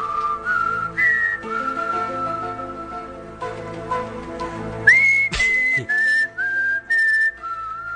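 A melodic tune whistled clearly over a soft instrumental backing, the whistled notes gliding between pitches in a slow, eerie phrase with a few short, separated notes near the end.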